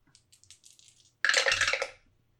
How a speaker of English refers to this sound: All right, so let's do 3. 3 dice for this. 3 dice, okay.